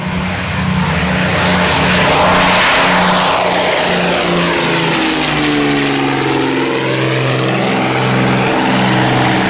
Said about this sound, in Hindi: Briefing के बाद 4 mysterious विमानों ने 1500 फीट की ऊंचाई पर उड़ते हुए छम की तरफ उड़ान भरी।